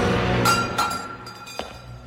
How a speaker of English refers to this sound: Barkis takes the goblet from the altar and gulps down its contents. He tosses the goblet aside.